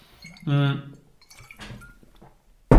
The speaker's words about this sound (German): So, ich nehme jetzt ganz kurz einen Schluck Wasser.